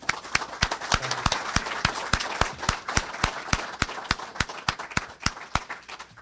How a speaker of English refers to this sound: If I could interest you in one more round of applause